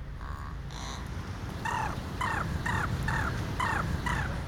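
A crow in the town of Peresvet, high in the crown of trees, mimicking a football referee's whistle: six short, shrill, arching whistle calls repeated in a steady rhythm, heard over a constant rushing background noise, with faint tonal notes just before.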